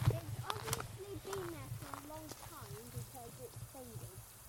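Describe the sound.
A steady, broad hiss of water spraying out of a split blue water pipe that runs through a pond continues underneath, while people talk over it throughout.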